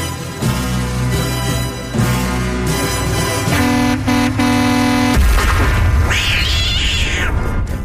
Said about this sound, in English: Sound effect is disturbing. It is. It's a cat getting hit by a truck. Yeah. Well, no cats were injured in the making of that.